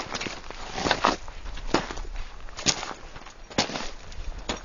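Footsteps crunch along a dusty mountain path on the approach march of a Himalayan expedition to Manaslu, fine sand swirling up in the heat. The steps follow a steady walking rhythm, each a soft scuffing crunch over a faint background hiss, with no voices.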